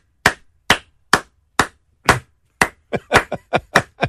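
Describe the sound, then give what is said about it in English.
Sharp hand claps from what sounds like a single person, a slow, evenly spaced series that breaks into a quicker, uneven flurry of about a dozen claps in all, with no voices. “You may be the only person clapping.”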